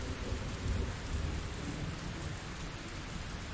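Steady rain pours down with a low, rolling rumble of thunder underneath, a continuous thunderstorm wash with no voices, the rumble swelling briefly early on before settling into a constant roar.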